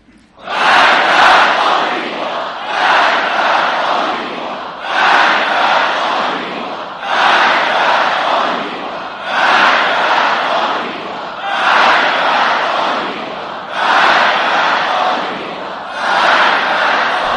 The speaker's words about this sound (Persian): مرگ بر آمریکا که شما فریاد میزنید، اینی که گفتن هرچه فریاد دارید بر سر آمریکا بکشید، یعنی مرگ بر این چیزها.